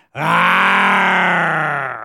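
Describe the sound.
A single loud, sustained human growl given as a sign-off, lasting about two seconds, low and gravelly with a rich harmonic buzz that slowly sags in pitch and fades slightly at the end.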